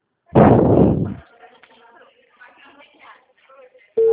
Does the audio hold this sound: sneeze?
no